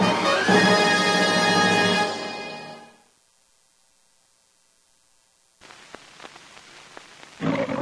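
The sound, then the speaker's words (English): A single loud, rumbling roar from a thickly maned lion in the Metro-Goldwyn-Mayer film logo, ringed by film, opening a black-and-white movie; it bellows for about three seconds and fades out, followed by silence and then a faint crackling hiss with scattered clicks. “A ring of film surrounds the head of a thickly maned lion.”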